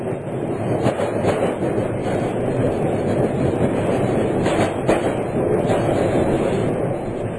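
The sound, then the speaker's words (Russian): A train hauled by a diesel locomotive pulls away, rolling along with a steady, loud rumble, and faint rhythmic wheel clacks surface now and then over the continuous noise. No voices. “Поезд тронулся.”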